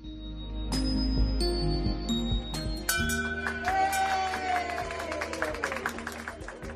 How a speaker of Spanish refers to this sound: Mía pudo finalmente tocar esa campana que simboliza el fin del tratamiento